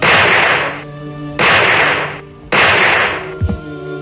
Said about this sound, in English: So we heard some, like, backfire, firecrackers or something.